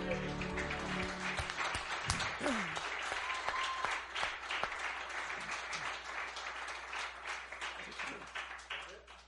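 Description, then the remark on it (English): A crowd claps and cheers for the Lord steadily, dense applause with scattered whoops and shouts, loud at first and slowly thinning toward the end. “Give the Lord a cheer.”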